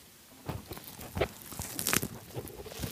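Crunchy bites and wet chewing of a burger, a series of short irregular crunches and smacks, fairly loud, with no talking.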